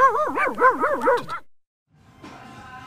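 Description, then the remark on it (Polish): Dogs in Kisielówka barking and yelping in a rapid, warbling run for about a second and a half, then a brief silence before fainter, noisier sounds return. “I to są psy z Kisielówki.”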